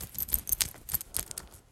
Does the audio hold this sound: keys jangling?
yes